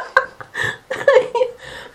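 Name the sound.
coughing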